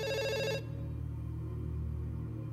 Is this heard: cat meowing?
no